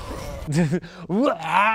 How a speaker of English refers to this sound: Also, we totally added in, like, we definitely recorded his, like, screaming after the fact. Like, listen to the plastic bag one.